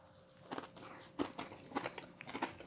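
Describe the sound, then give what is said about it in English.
Crisp crunching as someone bites into a crunchy sprinkle-covered treat and chews, with several sharp crackly bursts spaced about half a second apart. “Crunchy. Yeah, it's like heavy on the sprinkles, you know?”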